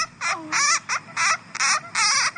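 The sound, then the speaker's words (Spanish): A bat, recorded in March in Malaysia while held in the hand and being taken out of a net, gives a rapid series of about six high, squeaky chirps with a wavering, harmonic tone, each burst loud and separated by brief gaps, with no talking. “Este es un murciélago que grabé en marzo en Malasia.”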